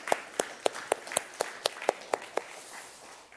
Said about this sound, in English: And there is nothing in this world that can ever replace a mother's love for their child. So why don't we give a round of applause to our mothers here and really appreciate them.